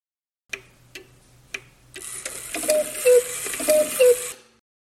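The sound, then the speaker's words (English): A few sharp, evenly spaced ticks start alone, then many cuckoo clocks in a museum tick and whir together in a dense, fairly loud clatter, with two descending two-note cuckoo calls ringing out near the end. “Welcome to the world of cuckoo clocks. What a beautiful chorus!”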